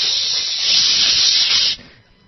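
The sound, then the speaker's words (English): A voice imitates a blast of mace spray: one steady, loud, breathy hiss held for nearly two seconds before it cuts off abruptly. “And it wasn't just like a psh. Believe me, that would have been enough. I'm going to give you a psh.”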